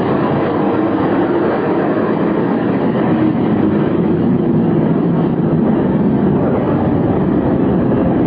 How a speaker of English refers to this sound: By the way, we'll let the plane pass here.